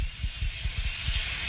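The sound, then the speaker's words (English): A dental drill whines at a steady high pitch, with a hissy edge and a low, rhythmic pulsing rumble underneath, running continuously with no talking, as a dentist drills out an old filling in a tooth on the lower right side. “I'm drilling out the old filling now.”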